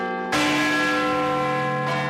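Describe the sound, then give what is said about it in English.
A single massive strike of a great clock tower bell by its hammer, driven by wheels in the motor room below, rings out loud and sudden, its deep, steady harmonic hum sustaining and slowly decaying, with no voices present. “You're as close to the hammer now as anybody has ever been to that hammer.”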